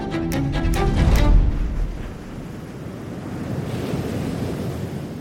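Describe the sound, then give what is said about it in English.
Sea waves break in a loud, rumbling surge, then settle into a steady, hissing wash of surf. Faint tonal ringing sounds at the start, and no one speaks. “From swimming, surfing and sailing to providing the fish to go with our chips, it's hard to imagine life without the waves that surround us.”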